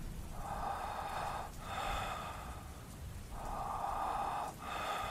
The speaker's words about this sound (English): Someone else was breathing, very softly, behind the wall at the top of the steps.